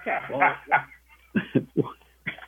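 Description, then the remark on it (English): A dog-barking sound effect: dogs bark in a quick run of four or five short, sharp, clear yaps, following a brief stretch of muffled voice-like sound at the start. “I'm listening to the sound effects here with the dogs.”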